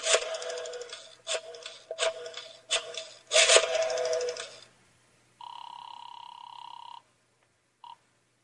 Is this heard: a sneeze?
no